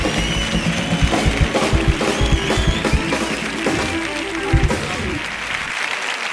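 Sustained audience applause, a dense steady patter of many hands clapping at an even level throughout, with a few louder bursts and no clear voices standing out.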